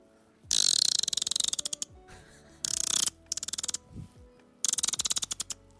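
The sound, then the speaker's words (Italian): A person from Copenhagen imitates dolphin clicks with their voice: three fairly loud bursts, each starting with a hissy rush that breaks into a rapid train of sharp clicks, with short pauses between. “Allora, su questo treno delle imitazioni dei paresi degli animali, mi aggiungo anche io con i delfini.”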